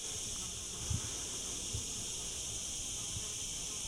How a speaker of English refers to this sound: Down here, the chamber of the well opens up into a gorgeous oval arch. There's a happy collection of flies buzzing around down here.